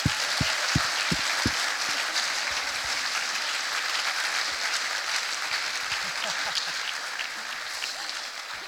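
A church audience applauds a woman stepping into a new position as a pastor of the church, a dense, even wash of many hands clapping that holds at a fairly loud level for several seconds, with a few sharp individual claps standing out at the start.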